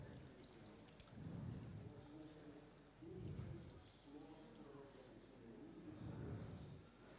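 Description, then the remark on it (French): Water trickles and gurgles out of a bottle through its open cap in a few uneven pulses, fairly quiet, with murmured voices faintly underneath. “Il referme le bouchon, ça s'arrête de couler.”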